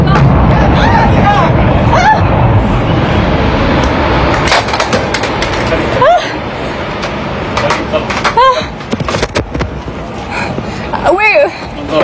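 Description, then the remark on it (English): Several sharp, booming cracks of explosions from raids targeting a tower go off at irregular intervals over a loud, continuous roar of crowd commotion, with raised voices and shouting throughout. “We're going to direct the camera now towards the explosions.”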